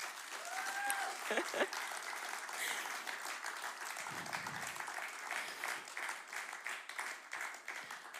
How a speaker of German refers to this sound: Gebt ihnen mal einen riesen Applaus.